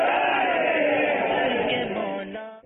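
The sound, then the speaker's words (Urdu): Many voices shout the religious slogan "Faizan-e-Ala Hazrat" together in one sustained, unified roar, loud and steady before fading slightly at the end. No single speaker stands out. “نعرہ لگائے فیضان آلے حضرت.”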